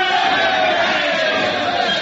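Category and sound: crowd, soldiers cheering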